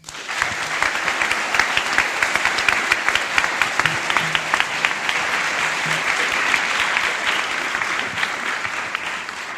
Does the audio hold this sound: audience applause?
yes